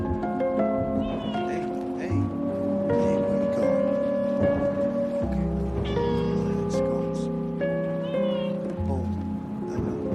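Repeated high, thin mews from a kitten being grabbed by a young man, loud, come in short rising and falling cries over a steady background of sustained tones.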